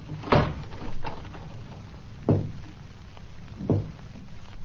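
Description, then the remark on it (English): Three heavy, dull knocks on a door, spaced a second or two apart with no set rhythm, each a single solid thud over a low background hiss, with no voices. “Dan, were you knocking at this door?”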